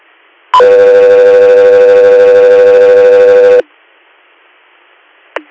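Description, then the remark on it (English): A loud radio dispatch alert tone: a brief higher blip jumps into a steady, buzzy electronic tone held for about three seconds, then cuts off, followed by a short chirp over faint static. “Alaska, 3 Air, stand by for tones.”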